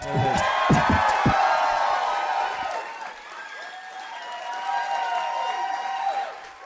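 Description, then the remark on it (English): A crowd applauds and cheers loudly, with whoops and shouts rising over dense clapping that holds steady for several seconds before easing slightly and swelling again. “Somewhere through a pool of horses' blood, Usador can hear your applause and he appreciates it.”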